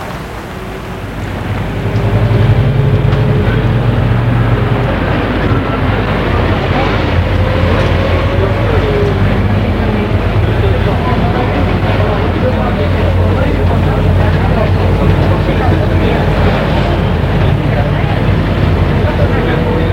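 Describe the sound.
A bus and metro ride toward Montparnasse: a loud, steady rumble of engine and rolling wheels that swells in after a moment and holds, with faint indistinct voices murmuring underneath.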